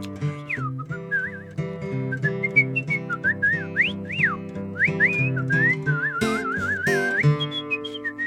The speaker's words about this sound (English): Hey, can you whistle it?